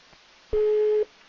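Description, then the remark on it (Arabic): A single steady electronic busy tone sounds for about half a second, clear and prominent, with faint line hiss before and after and no one speaking. It follows a dropped internet call, made over Viber or WhatsApp, from a caller in Libya to a call-in programme. “نطلب من الأخوة في غرفة السيطرة حبذا لا تتصلوا بي على الهاتف، لأن الأخ يتصل من خلال الفايبر أو الواتساب، وبصراحة لما ينقطع ربما يتهمنا أننا نقطع، حبذا لو تتصلوا به.”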